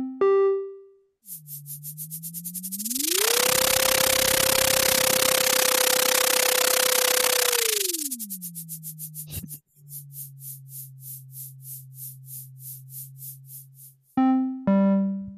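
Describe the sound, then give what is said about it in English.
A sonification of ocean echo sounder data showing a day of zooplankton movement: a low electronic tone glides upward as they swim to the surface, holds high beneath a loud wash of hiss while they feed there, then slides back down to deeper water, framed by pulsing synthetic tones. “Now let's listen to data collected by the echo sounder that demonstrates a day in the life of zooplankton as they move up and down in the ocean.”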